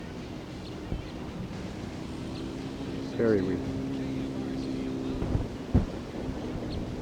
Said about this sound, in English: It's kind of windy right here now.